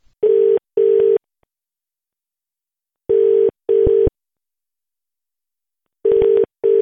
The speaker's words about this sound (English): Ring somebody. Hang on, I'll look on my mobile phone.